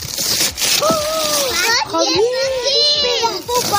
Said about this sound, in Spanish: Una Navidad que se precie, ¿verdad? Tiene que acabar con sonidos parecidos a estos, con los niños abriendo regalos junto a los padres, los abuelos recogiendo a toda prisa los papeles con los que estaban envueltos para ir dejando sitios.